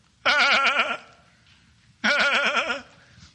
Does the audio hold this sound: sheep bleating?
yes